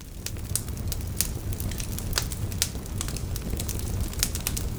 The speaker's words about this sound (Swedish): Just den här inspelningen fick jag från YouTube och TV4s kanal. Det finns naturligtvis många andra inspelningar av brasor också, men det var den jag fick tag på.